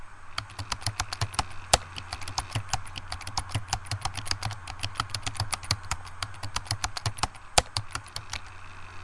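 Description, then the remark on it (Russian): Rapid, uneven keystrokes clatter on a computer keyboard connected to a laptop at a desk for the full stretch, crisp, over a steady low hum in the background. No one speaks. “Так, клавиатура подключена.”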